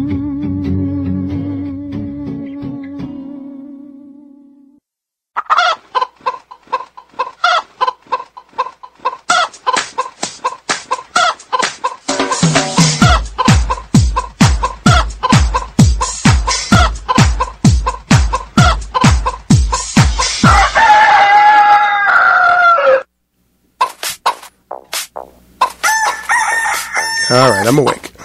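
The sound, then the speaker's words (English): Loud chickens cluck in quick, steady bursts while a rooster crows, the sounds repeating in a rhythmic pattern over a deep thumping pulse, with a short pause before a final flurry. “And we're on volume 5 of Chickens.”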